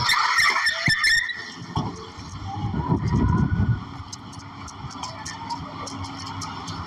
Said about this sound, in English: Hold on. Car's taking off on us.